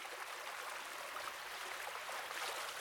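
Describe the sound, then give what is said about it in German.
Steady rushing water floods an alley, a continuous bright hiss like a fast stream, holding an even level throughout with no voices. “Die Gasse ist voller Wasser.”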